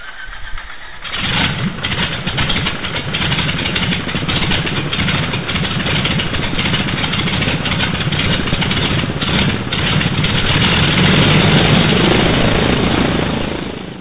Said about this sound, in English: say something nice about that engine. It sounds so much smoother than it did before